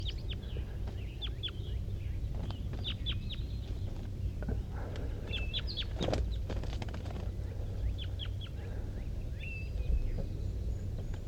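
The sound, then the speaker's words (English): Wild birds, one sitting in the top of a dead pine, call in repeated bursts of short, high chirps and whistles. The calls are scattered throughout over a steady low rumble, with a few sharp knocks in the middle and no talking. “These are wild birds calling.”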